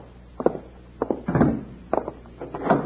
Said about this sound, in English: he's locking the door. Sure. Always keep the bank locked.